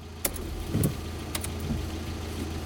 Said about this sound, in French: un taxi s'arrête. Le crissement des pneus me perce le tympan.